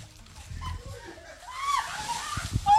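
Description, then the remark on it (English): Water sloshes and splashes in a brief, noisy burst as someone plunges into an ice bath, with excited voices shouting and laughing over the churning water. “he's climbing out of the ice bath already.”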